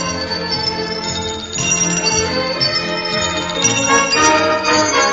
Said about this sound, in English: He bounces higher and higher, leaping onto a wooden clock with two little doors. He pushes the clock hands to half past. A family of bell rings comes out of one door and goes into the other.